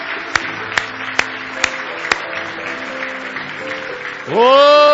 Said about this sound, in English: Give the Lord a big hand clap of praise if you love him tonight with all your heart.